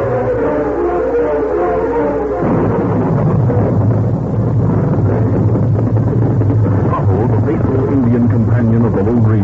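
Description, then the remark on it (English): A loud, steady roar of storm wind with a deep rumbling undertone, sustained without a break and swelling slightly as it goes on. “The gathering storm as he rode at top speed toward a camp in the woods, not far from Trigger Bend.”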